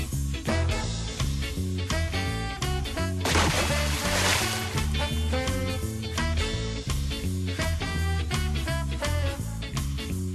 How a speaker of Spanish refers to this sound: los tres que estamos ahora mismo aquí sentaditos en esta mesa, nos hemos dado directamente ese chapuzón porque estamos contentos, porque estamos felices, porque es viernes